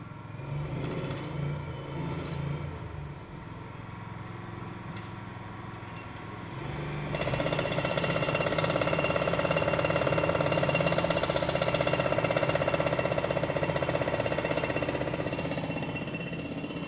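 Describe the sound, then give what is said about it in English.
Construction machinery rumbles steadily at around 8:30 in the morning, then a rotary masonry saw kicks in at full power with a loud, sustained grinding whine that holds without pause to the end. No one speaks. “And not only that, it's been some kind of rotary masonry saws and all kinds of stuff going on.”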